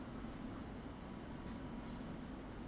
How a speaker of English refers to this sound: The next station is Wembley Park. This is an all-stations Metropolitan Line train to Watford.